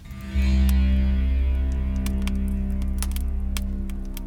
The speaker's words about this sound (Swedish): Hör du klirret av glas?